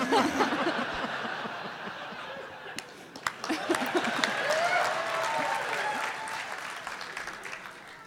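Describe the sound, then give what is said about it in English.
An audience in Portland breaks into steady, dense applause at a mention of liking asparagus, lasting about eight seconds, with scattered laughter and a few cheering voices mixed into the clapping. “I am totally hung up on the fact that in Portland, asparagus is an applause line.”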